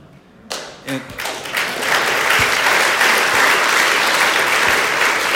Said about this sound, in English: And it always amuses me when people clap during that part of my share because you won't be clapping for a while.